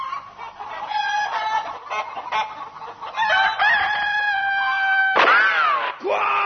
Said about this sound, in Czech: Quiet! Stupid bird!